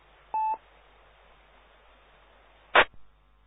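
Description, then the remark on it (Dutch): A brief two-pitched radio tone signal, like a dialing beep, sounds once over steady band-limited hiss. Its modulation is lost in the hum. About two seconds later comes a short crackling burst of noise. No one speaks. “Ja, dat was een signaal en een modulatie eronder die in de brom niet meer te horen was.”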